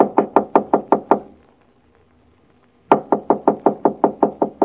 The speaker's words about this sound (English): I knocked on the playroom door.